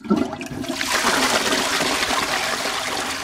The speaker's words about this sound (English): It's been a long time since German toilets flushed with a sound like that.